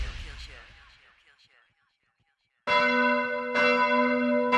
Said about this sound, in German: Das sind die Glocken der evangelischen Kirche in Heikendorf bei Kiel. Sie läuten ab morgen auch für die Katholiken in Heikendorf.